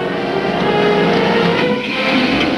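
A heavy tanker truck's engine rumbles steadily, a loud, continuous drone with a rough mechanical texture and no pauses, and no voices over it.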